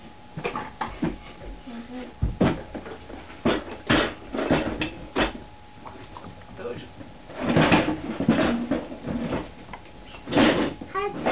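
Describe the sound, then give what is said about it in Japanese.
A drawer is pulled out with a series of scraping, clattering bursts spread across several seconds, mixed with intermittent voices talking. “この引き出し。ちょっと抜きなさい。”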